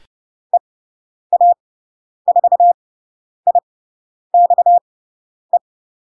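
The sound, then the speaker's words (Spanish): Morse code beeps sending a radio callsign from Spain, in a single steady pitch, short dots and longer dashes grouped into several characters with gaps between, clear against complete silence, no voices. “Ya sabemos las letras, sabemos los números, ya podemos empezar a escuchar indicativos.”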